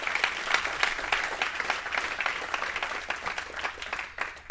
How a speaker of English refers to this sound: Good morning. That was a golf clap. Come on, let's give a big hand clap this morning.